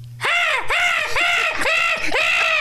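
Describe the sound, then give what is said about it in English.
A person does a seagull impression, as people take turns doing their best seagull impressions, with a string of about five loud, high, wailing calls, each rising then falling in pitch, repeated in a steady squawking rhythm with no pauses. “And of course, we're all going to go around the room now and do our best seagull impression, right?”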